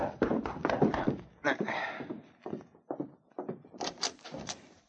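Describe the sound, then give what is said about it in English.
Several sharp knocks rap on a hotel room door in a quick cluster, followed by a pause and more scattered thumps and movement sounds. “Solitaire Jackson was in his hotel room when he heard a knock at the door”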